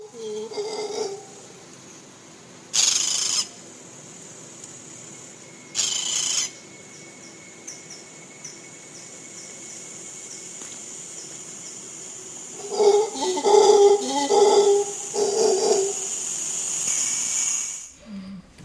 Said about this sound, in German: Und hier habe ich ein Beispiel, wie es klingt, wenn Brüllaffen brüllen.